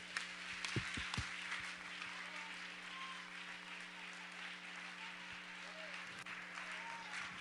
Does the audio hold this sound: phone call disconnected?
no